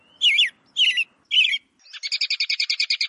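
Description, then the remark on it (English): An American robin sings three clear, warbling phrases with short gaps between them, then a quick run of rapid, evenly spaced chirps. The bird is fairly loud, with no voices. “It's a robin. That's a robin.”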